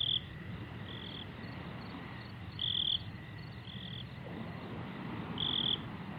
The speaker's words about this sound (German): Die Grillen geben ihr abendliches Konzert.